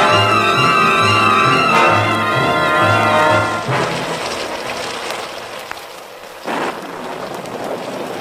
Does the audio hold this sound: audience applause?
no